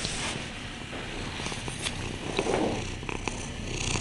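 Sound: cat purring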